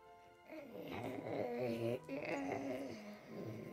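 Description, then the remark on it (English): A person makes a drawn-out, throaty dog growl with their voice, rising and wavering in pitch for a few seconds, fairly loud with no other talking. “That's a good growl.”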